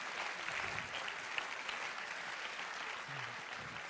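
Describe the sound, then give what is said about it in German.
Steady audience applause fills the whole stretch, a dense, even patter of many hands clapping at a constant moderate level with no voices standing out. “Давайте им похлопаем. Lasst uns ihnen klatschen.”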